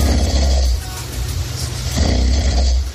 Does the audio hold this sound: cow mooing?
no